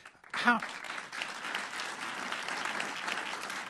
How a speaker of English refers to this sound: They really like you. I held up the applause sign.